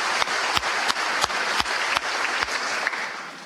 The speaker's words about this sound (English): Again, bipartisan applause here. Both sides of the aisle. Every Democrat, every Republican, as I look out, standing and applauding what the governor, Mike Parson, is saying.